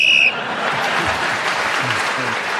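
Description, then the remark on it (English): A single short, shrill whistle blast sounds loudly at the start, signalling time up for a speaker in a panel game round, then cuts off as an audience breaks into sustained applause that fills the rest of the moment. “Clement was speaking as the whistle went, gained that extra point”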